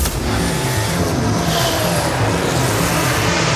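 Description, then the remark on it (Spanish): A racing car engine roars loudly and continuously for a few seconds, a dense, gritty drone with a throbbing low rumble and a slight rise in pitch, with no voices. “Vuelve el rugido a nuestras vidas.”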